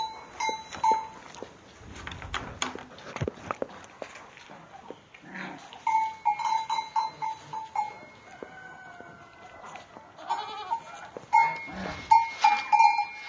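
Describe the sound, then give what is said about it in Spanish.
Several goats bleat in bursts inside a stable as someone comes in to tend them, with bells clinking and animals shuffling around; no one speaks. “Entrando a la cuadra a despachar las cabras.”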